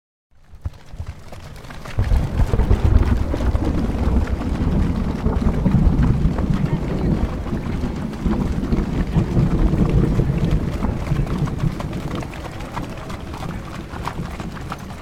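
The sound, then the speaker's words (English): Heavy rain pours down steadily, with deep rolling rumbles of thunder underneath. It swells in quickly after a quiet start, then stays loud and dense throughout, with no voices. “Summer storms were never very common in DuPont, so I was a bit confused when thunder clapped and lightning struck. Heavy water poured from the sky, soaking my hair and clothing.”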